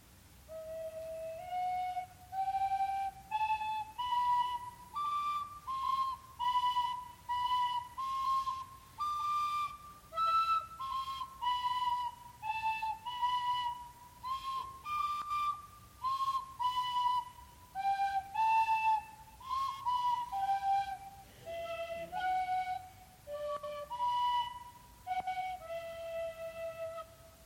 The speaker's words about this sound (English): I want you two to just play something real quickly for me on your tin whistle together, okay?